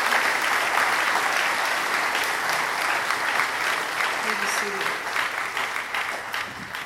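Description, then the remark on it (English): Sustained applause from an audience, a dense wash of clapping that holds steady for several seconds before gradually thinning out near the end. “Let's give them a warm round of applause for their long-standing faithfulness and dedication.”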